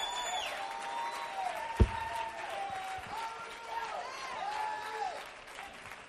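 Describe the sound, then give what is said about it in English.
A large audience claps hands in praise continuously in a dense, steady wash of applause, with voices and sustained musical tones sounding over the clapping throughout. “Come on and clap your hands and praise him like you know what I'm talking about.”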